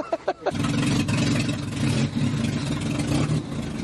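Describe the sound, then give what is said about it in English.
A long-wheelbase van engine cranks in a few quick bursts, then catches and starts, settling into a loud, steady rumbling run with a low droning hum. “Does it actually turn over and start?”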